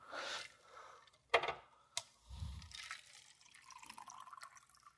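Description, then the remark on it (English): Water splashes and trickles into a glass, with a couple of sharp clinks and a low gurgle partway through, moderately quiet, no one speaking. “Okay, so let me just get some water here.”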